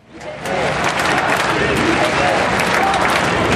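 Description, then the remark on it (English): A dense, steady roar of a large outdoor crowd at a march of national solidarity in the Place de la République, Paris, France, at 3 o'clock on a winter Sunday afternoon, many voices blending with scattered applause, swelling up in the first half-second and then holding loud and continuous. “A low winter sun is casting long shadows across a vast sea of people spilling out of the Place de la République.”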